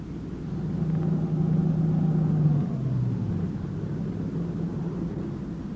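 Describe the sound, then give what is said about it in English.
A dark-colored late-model sedan's engine rumbles as it swings off a dirt road and rolls in, its low drone dropping in pitch midway as it slows and pulls to a stop near a shack, settling into a steady idle. No one speaks. “It swung off the dirt road and pulled to a stop near the shack.”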